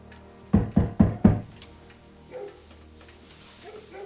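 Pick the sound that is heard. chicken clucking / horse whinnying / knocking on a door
knocking on a door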